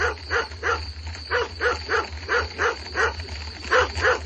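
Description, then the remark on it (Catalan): A dog barks over and over at 2 a.m. in the countryside in a steady, quick rhythm, about two barks a second, moderately loud, with a low constant hum running underneath and no one talking. “No és més que un gos.”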